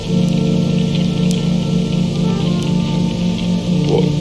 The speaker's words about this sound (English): It's still raining. Why is it still raining?